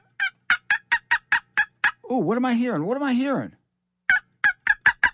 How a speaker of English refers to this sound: I'm hearing turkeys and seeing turkeys out there. Yes, the winter flocks, although you gotta call this winter again, seem to be breaking up, and I'm seeing more and more birds in my travels.